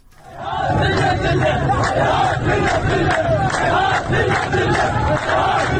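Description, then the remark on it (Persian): A large crowd of protesters at a protest over water shortages in Kut Abdollah, Ahvaz, Khuzestan province, Iran, chants slogans such as "I am thirsty" together in loud, steady unison, their voices rising in rhythmic bursts over a constant roar after a brief fade-in. “شامگاه گذشته تظاهرات اعتراضی به بی‌آبی در کوت عبدالله اهواز برگزار شد و تظاهر کنندگان شعارهایی مانند من تشنه‌ام سر دادند.”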